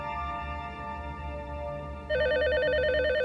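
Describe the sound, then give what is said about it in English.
A steady, droning tonal background is suddenly joined by the loud, rapidly warbling electronic ring of a telephone that Monica Lewinsky grabs, trilling continuously through the last second or so. “Startled, Lewinsky grabs the phone.”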